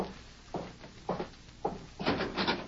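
Knocking on a wooden door by the sheriff: three evenly spaced, dull thuds followed by a quicker flurry of several knocks, muffled and fairly soft, with no voices.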